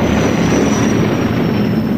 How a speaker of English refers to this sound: Meanwhile, the Millennium Falcon comes out of hyperspace near the coordinates where Alderaan once existed.